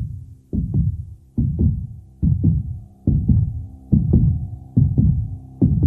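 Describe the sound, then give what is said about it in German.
A deep, steady heartbeat opens a 1980s rock song, thumping in paired beats, roughly one double-thud every second, loud with a low humming resonance beneath, and no voices. “Da ist er, der Herzschlag.”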